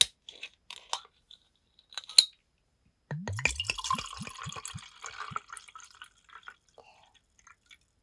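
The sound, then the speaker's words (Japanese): A few sharp clicks and taps as a bottle of Chamisul soju is opened, then the soju glugs from the bottle into a glass in quick gurgling bursts for a couple of seconds, fairly loud, with no talking. “早速お酒開けちゃいます。まず、大好きなチャミスルから。”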